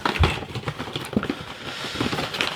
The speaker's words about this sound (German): Ja, und jetzt müssen wir da die Schachtel aufmachen, ne? Die dabei liegt. Da sind die Pots drin. Da sind dann die Pots drin, genau.